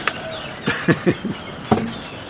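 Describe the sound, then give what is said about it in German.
Steady surf-like wash of ocean waves fills the background while birds call above it, with a few quick chirps and short bursts scattered across the moment; no one speaks. “Und ich höre die Wellen und die Vögel.”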